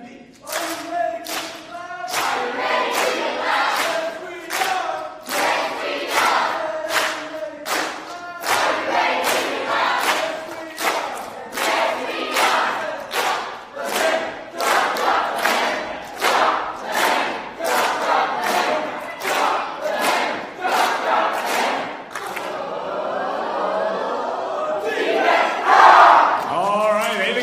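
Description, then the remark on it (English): The green team, competing against a blue team, shouts a loud, rhythmic cheer in unison, chanting in short repeated bursts that build steadily, ending in a louder burst of yelling. “This is going to be a positive cheer.”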